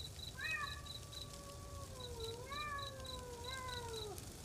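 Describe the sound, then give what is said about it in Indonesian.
A mother cat meows in long, drawn-out calls as she searches for her kittens, three wavering cries in a row, with a faint high chirping and low background rumble underneath. “Ditambah dengan suara induk kucing yang sedang sibuk mencari anak-anaknya.”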